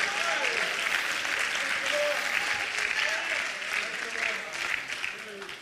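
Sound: audience clapping hands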